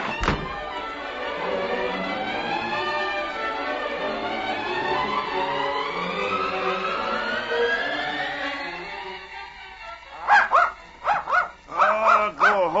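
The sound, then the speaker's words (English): A funny-looking hound barks in a quick burst of several loud barks near the end, after a long stretch of dense, layered background sound. “want funny-looking dog like you? Go away!”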